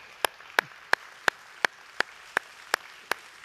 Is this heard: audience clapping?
yes